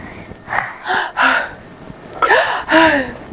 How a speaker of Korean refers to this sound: 하품했어. 자다 깨서 하품했어.